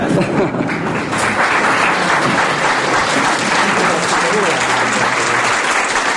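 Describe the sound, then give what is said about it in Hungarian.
A large football crowd applauds steadily, a dense wash of clapping and cheering that holds at a loud, even level for several seconds with no pauses. “vagy az Orbán Árpirak, aki egy hatalmas termetű középhátvéd volt, és egy nagy-nagy fejesné, amikor 15, 20 vagy 30 méter és kifejelte a labdákat, annak jobban örültek és jobban tapsoltak, mint egy gólnak.”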